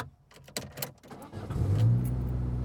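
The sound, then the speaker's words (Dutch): A few sharp clicks and knocks, then a car engine swells in from inside the cabin, its low hum growing louder and rising steadily as the vehicle accelerates. No one speaks. “We dachten, we doen het gewoon een keer vanuit de auto.”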